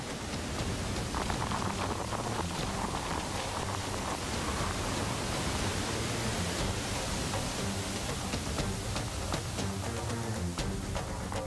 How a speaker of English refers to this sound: With hundreds of gallons of water cascading over the falls every second, the force is breathtaking. All I can do is hang on to the log. With this weight of water on me, even breathing is hard.